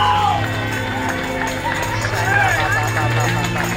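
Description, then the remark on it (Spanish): A church audience claps loudly as applause to the Lord after a prayer, a dense, steady wash of many hands that holds throughout. Voices call out over it, with a low droning hum underneath. “Pero apláudale duro, pero apláudale duro.”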